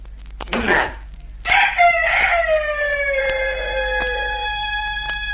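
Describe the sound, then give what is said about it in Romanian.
A rooster crows once, loud, with a long drawn-out cock-a-doodle-doo that trails off, preceded by a brief rough squawk. “Cucoșul o ia și se duce în treaba lui.”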